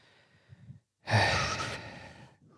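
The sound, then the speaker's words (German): Three heavy puffing breaths: a faint short one, then a long, loud, breathy exhale, and a soft trailing breath at the end, with no talking. “Dreimal schnaufen.”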